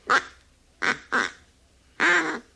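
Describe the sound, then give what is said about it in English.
Four nasal, raspy quacks from a hand-blown duck call, one then a quick pair and a longer final blast, fairly loud with short pauses between and no talking. “It takes kind of a knack to blowing it.”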